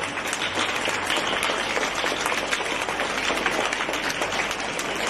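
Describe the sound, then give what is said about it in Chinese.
Sustained applause from a large crowd at a gathering, welcoming Lu Junhong as he receives flowers presented by attendees, a dense, steady wash of many hands clapping at even loudness throughout, with no voices standing out. “让我们用掌声欢迎卢军宏台长接受国友敬献的鲜花。”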